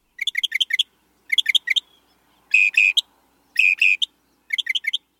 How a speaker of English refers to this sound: Some birds have a lot to say, but few surpass the northern mockingbird. Within its range in the U.S., which is most of the country except the northern west and midwest, you'll recognize the mockingbird's song instantly.